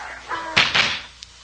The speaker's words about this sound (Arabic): وبعدين الله بند الباب.